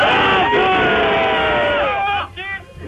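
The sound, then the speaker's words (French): Members of a rowing club in Rouen, France, shout loudly together in a locker room in one sustained, overlapping yell that holds for about two seconds, then break into a shorter, ragged burst of voices before fading. “Faudrait que vous criez encore un peu plus fort.”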